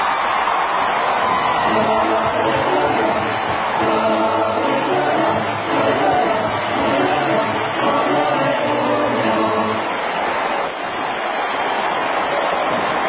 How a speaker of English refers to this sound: No, no, no, we're just listening to the applause.